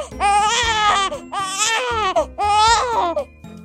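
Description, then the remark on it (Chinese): A baby wails in three long, loud crying bursts with brief gasping pauses between them, the cries high-pitched and strained with a rising-then-falling wavering tone. “宝宝不哭不哭啊”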